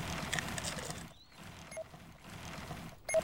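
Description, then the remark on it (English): Rapid, steady game footstep patter shifts in texture to a grainier, deep-sand crunch as the character reaches the entrance to the desert, with two brief pauses breaking the dense, continuous rustle. No one speaks. “You heard my tiles change there. This is the entrance, the deep sand here.”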